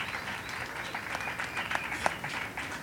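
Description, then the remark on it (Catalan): An audience at a show in Minira applauds steadily, many hands clapping in a dense, continuous patter with a few sharper claps standing out. “Un aplaudiment per Jessica Moroni, a les escultures i a l'escoleta de cinema també, que han estat gravant tot l'espectacle.”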